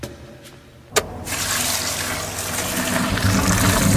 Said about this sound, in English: Why is... How could this not be overwhelming our pipe system? It is overwhelming our pipe system. Look at my sink. Whoa.